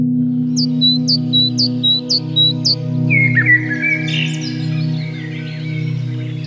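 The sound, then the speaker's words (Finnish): Lesser black-backed gull calls: a quick series of six sharp, repeated cries, then a rising and falling jumble of wilder calls, all over a steady low droning hum. “Tämänkertaisessa Luonnon ääni -podcastissa tutustumme paremmin niistä yhteen, erittäin uhanalaiseen selkälokkiin.”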